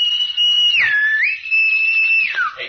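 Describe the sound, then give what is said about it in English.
A loud, steady high whistled call used as a signal, holding one pitch and swooping down and back up twice, with no voices. “…'s got to say something to a bird call.”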